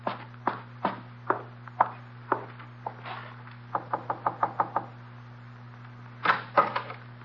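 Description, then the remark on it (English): Footsteps climbing stairs toward the fifth floor of a five-story house in Greenwich Village after midnight, in a steady rhythm of firm thuds, quickening into a rapid run of steps midway before a few heavier final treads, over a low constant hum. “The mailbox says fifth floor, and I start up.”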